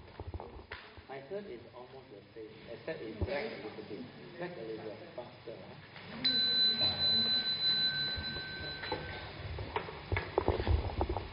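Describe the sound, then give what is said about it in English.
A bell is struck once partway through and its clear, high ringing tone hangs for a few seconds before fading, with people chattering before and during it. “Okay, I will ring the bell.”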